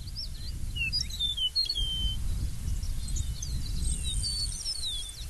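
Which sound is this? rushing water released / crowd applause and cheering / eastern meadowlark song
eastern meadowlark song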